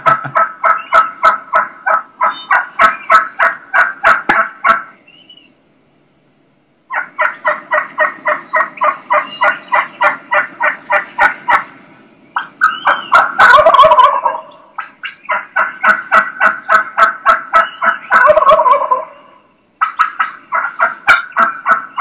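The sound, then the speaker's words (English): Loud wild turkey calling: rapid bursts of sharp, excited cutting notes in repeated runs, with deeper rattling gobbles breaking in between short pauses. No one speaks. “Just that's where you start getting that cutting. Cutting is very similar to clucks.”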